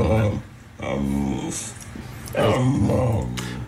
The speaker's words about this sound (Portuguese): Não é claríssimo que é um cão a chamar a mãe?